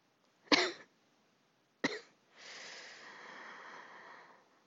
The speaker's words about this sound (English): As Sherlock gazes at him, his eyes open, and he coughs weakly.